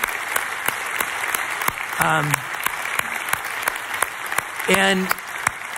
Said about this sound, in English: And I want you to know this, those applause that you just heard, just know that that is an encouragement to keep going.